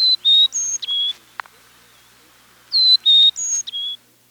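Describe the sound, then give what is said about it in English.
A Carolina chickadee sings its four-noted whistled song twice, clear, high, pure notes alternating up and down, fairly loud, with a brief pause between the two phrases. “The Carolina chickadee sings a different, four-noted tune.”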